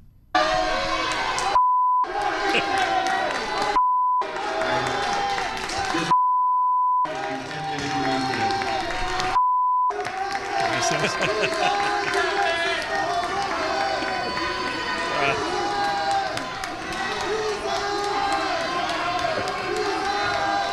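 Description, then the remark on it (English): A packed council room of protesters erupting as a man arrives, shouting and yelling over one another, loud and continuous, with several bleep tones cutting through in the first ten seconds. “It was kind of loud at moments, quiet, but as soon as he showed up, the room just absolutely exploded.”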